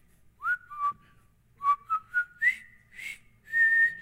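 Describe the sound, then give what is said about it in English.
A person whistles a short, bouncy march-like tune from the war movie Bridge Over the River Kwai, about eight clear notes with quick upward slides, ending on a long held note, with no talking. “I'm going to do a little whistle, see if you guys will know this.”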